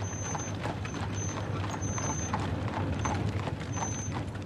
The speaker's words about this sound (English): The familiar sound of the horses clattering on the cobblestones of the narrow alleys